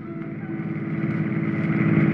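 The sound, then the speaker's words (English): A police prowl car drives along, its engine a steady droning hum with a low rumble that swells gradually louder. No one speaks. “Next thing I knew, I was inside the prowl car and we were on our way, but not towards town.”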